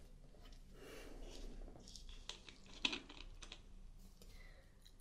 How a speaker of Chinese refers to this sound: 我随便写写字，抄点东西。